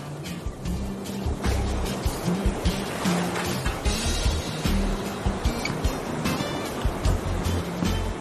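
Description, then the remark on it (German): Ocean waves rush and break on a sandy beach with a pleasant breeze, in a steady, continuous wash of surf, moderately loud, with a low rumble underneath and no one speaking. “Komm, lass uns zum Meer laufen.”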